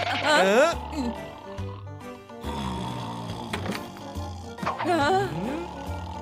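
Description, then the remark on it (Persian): A human voice mimics a pig with wavering, squealing oinks and low grunts in short bursts, broken by brief pauses over a steady background hum. “البته زبون خوکی خیلی سخته.”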